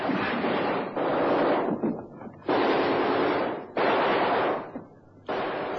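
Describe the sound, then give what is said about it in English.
Heavy naval gunfire in a sea battle, with a ship's gunners opening up on both sides as it approaches a gap: five loud, harsh bursts of roaring, crackling blasts, each lasting about a second, separated by short, uneven pauses, with no voices. “Tell the gunners to open up on both sides just as we approach the gap.”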